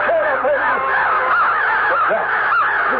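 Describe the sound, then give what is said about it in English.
A large flock of thousands of crows caws nonstop with beating wings, dozens of harsh overlapping calls forming a loud, dense, unbroken clamor that fills the whole stretch without pause. “It sounds like the voices and wings of many birds. There are thousands of them.”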